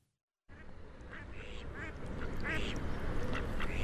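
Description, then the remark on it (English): Ducks on the water at a riverbank quack repeatedly in short nasal bursts over a steady outdoor wash of noise, several calls overlapping after a brief silent start. “There are ducks on the water, fish are jumping out from time to time, and there are beautiful flowers on the riverbank.”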